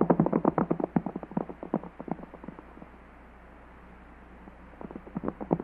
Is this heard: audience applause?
no